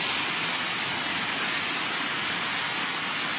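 heavy rain

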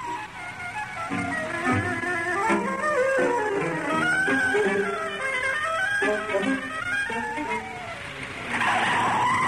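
car driving fast

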